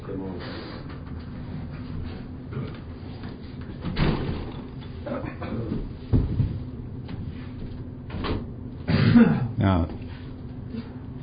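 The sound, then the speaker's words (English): A door is pushed shut with a few dull thuds and a louder knock near the end, set against background murmur and people talking faintly. “Well, let's close the door then.”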